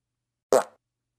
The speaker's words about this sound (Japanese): これでもまだエレンのおならが物足りないとおっしゃいますか？スカンク娘のおならの怖さ、身をもって体験してくださいませ。